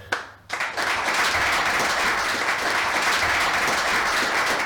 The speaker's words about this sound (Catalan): Doncs aquests són els aplaudiments de la sala de l'estadi municipal plena de gom a gom, jugadors, directius, entrenadors de la Unió Esportiva Olot que han volgut acomiadar doncs, a Pedro del Campo després de 7 temporades amb el conjunt olotí.